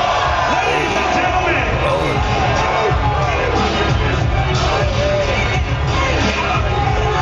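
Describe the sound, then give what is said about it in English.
A large crowd at a Tyson fight erupts in a sustained, loud roar of cheering and yelling, with overlapping shouts rising and swelling throughout without a break. “It's just the crowd erupting.”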